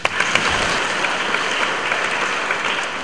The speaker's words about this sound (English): And let us give a big clap for him. Takže pojďme mu pořádně zatleskat.